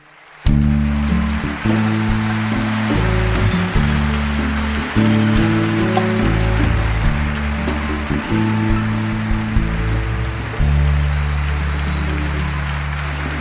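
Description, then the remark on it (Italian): A crowd at Carnegie Hall applauds steadily throughout, a dense crackling clapping that holds its loudness, while low sustained music chords shift underneath; the applause goes to the Italian comedian Totò (Antonio De Curtis). “l'applauso va ad greatest Italian comedian, Mr.”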